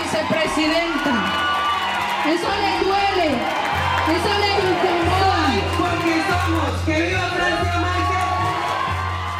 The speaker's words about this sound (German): Jubel und Begeisterung für Francia Márquez, den eigentlichen Star der Präsidentschaftswahl im vergangenen Sommer in Kolumbien.